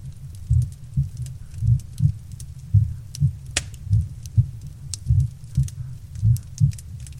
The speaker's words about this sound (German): Du weinst dich an seiner Brust aus. Und dabei hörst du seinen beruhigenden Herzschlag.